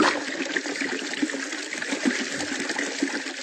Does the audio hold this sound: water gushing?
yes